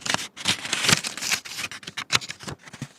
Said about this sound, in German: Und dann muss man weiter blättern.